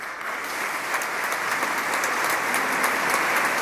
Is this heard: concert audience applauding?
yes